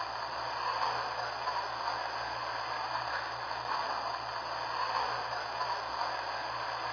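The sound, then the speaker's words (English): Train number 37 departing a station for Walton, heard as a steady wash of rumbling, hissing noise that stays even and unbroken throughout, with no voices. “Now departing for Walton on Drive 2. Train number 37.”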